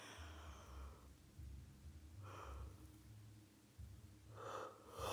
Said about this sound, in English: I just keep yawning. I just want to sleep, really.